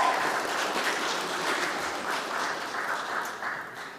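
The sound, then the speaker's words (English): An audience applauds steadily for six chorister ladies, a dense patter of many hands clapping at a fairly even level throughout, tapering slightly at the end. No one speaks. “Would you please give our 6 chorister ladies a bit of a clap for their input?”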